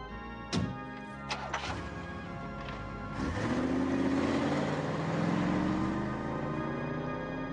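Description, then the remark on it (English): A few sharp clicks and knocks, then a car engine starts up and revs, its steady hum climbing in pitch as Caesar's car pulls away and keeps driving, with no voices. “As Caesar drives away, Jane pops up from behind a gravestone and hurries over to Worley.”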